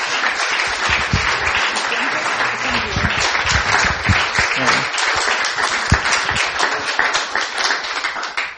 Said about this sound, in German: Gib ihnen mal einen Applaus. Das sind ganz tolle Leute hier.